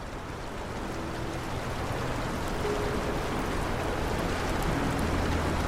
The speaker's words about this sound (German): Durch ein großes Glasfenster am Ende kannst du auch hier das Meer sehen. Die Gezeiten, die rhythmisch an den Strand treffen und dann wieder ins Meer zurückkehren.